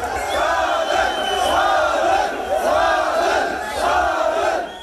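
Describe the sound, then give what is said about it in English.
A large crowd of activists in Bishkek, Kyrgyzstan, celebrating President Jeenbekov's resignation, chants loudly in unison, voices rising and falling in a steady rhythm of repeated calls about every second and a half, with a constant roar of voices underneath. “Once news spread today of the president's resignation, activists in Bishkek celebrated.”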